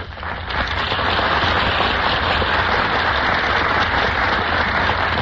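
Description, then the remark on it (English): A crowd at the Gulf Theater applauds steadily as the stars enter the stage, a dense, crackling wash of clapping that holds at an even, loud level for several seconds, with no voices over it. “A burst of applause greets our stars as they enter the Gulf Theater stage.”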